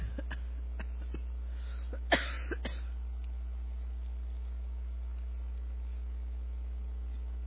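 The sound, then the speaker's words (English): A short cough rings out from the audience, followed by a couple of softer coughs or throat-clears, all over a steady low electrical hum. “Now I'm making everybody cough.”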